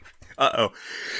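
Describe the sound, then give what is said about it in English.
A single sharp, fairly loud sneeze, a brief voiced burst followed by a breathy, hissing tail as the background noise settles. “Bless you.”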